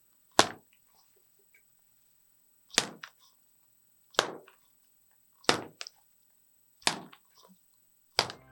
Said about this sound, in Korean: 하비투스랩 행성의 야구공 던졌다가 잡는 소리 들으면서 마무리하겠습니다.